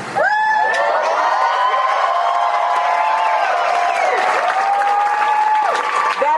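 A crowd breaks into loud, sustained applause after news that the sheriff said there would be no entry tonight, dense clapping mixed with cheering and a few long whooping shouts, holding steady for about six seconds before cutting off.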